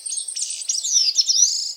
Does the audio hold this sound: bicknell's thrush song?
yes